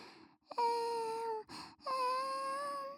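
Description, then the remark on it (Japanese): A person imitates a hungry baby crying with two drawn-out, steady wails separated by a quick breath, moderately loud, with no talking. “って泣いてママたちに教えてくれるんだよね。”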